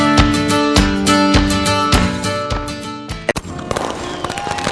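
A series of loud, booming fireworks bursts at the Sugar House Fireworks Show for Independence Day, July 4th, at Sugar House Park in Salt Lake, popping every half second or so over a sustained musical bed, then thinning into crackles toward the end.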